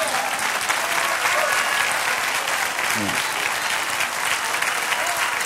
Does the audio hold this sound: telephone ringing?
no